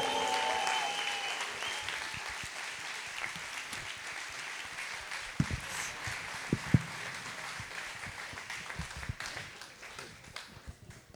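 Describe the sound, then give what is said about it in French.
Sustained applause from a large audience welcoming the first two performers, a dense wash of clapping that stays steady for several seconds, with a few sharper individual claps standing out before it slowly thins. “Maximum d'applaudissements pour elles, s'il vous plaît.”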